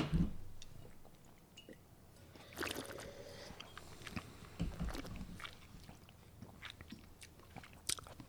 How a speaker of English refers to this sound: Again, it's a big wine. I haven't taken a sip yet, but I'm about to do so.